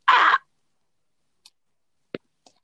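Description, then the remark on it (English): A single loud, harsh cough bursts out at the start, followed by a few faint clicks and taps in otherwise quiet surroundings. No one speaks. “Hold up, I'm gonna cough.”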